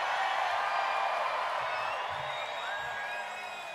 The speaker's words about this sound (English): All right, it's a New Year's Eve crowd, I can tell you that.